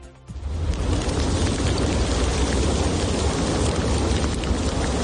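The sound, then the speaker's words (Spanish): A dense, steady clatter of small stones, thrown high by explosions of the Cumbre Vieja volcano, pelting the ground like hail, starting abruptly and continuing loud and unbroken, with a deep rumbling undertone and no voices. “Las explosiones vuelven al Cumbre Vieja y en cada una de ellas expulsa pequeñas piedras como si fuera granizo, a una gran altura además.”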